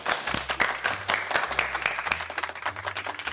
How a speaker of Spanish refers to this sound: Aplausos enlatados y de verdad, los de verdad casi nos es un estruendo en el micrófono.